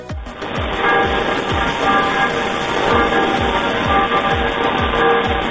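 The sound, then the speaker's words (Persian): A local church bell rings to announce a death in the town, in a dense, steady clangor, with repeated strokes about twice a second and shimmering overtones hanging in the air, loud and unbroken throughout. “خیلی ممنونم از اینکه زنگ کلیسای محلتون رو به گوش ما هم رسوندین در برنامه‌ای با موضوع مرگ.”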